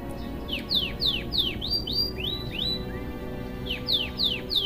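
A yellow canary chirps in a rapid series of bright, sweeping notes, some rising and some falling, repeated in quick bursts over a low steady background hum. No one speaks.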